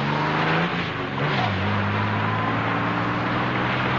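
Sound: car driving past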